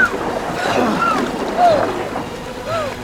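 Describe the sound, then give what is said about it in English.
Rushing river water churns steadily around a canoe in a continuous roar, while voices shout over the turbulent wash. “Keep your legs tucked up! Come on! Don't let the river grab you! Head for that eddy!”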